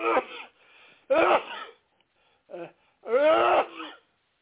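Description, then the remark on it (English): A person sneezes, with a few voiced, strained breaths building up before one loud, harsh burst, then quiet. The sound is thin and band-limited. “I took a sneeze.”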